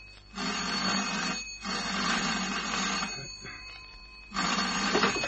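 A telephone bell rings loudly in an office in three long, rattling bursts separated by brief pauses, with no voices present.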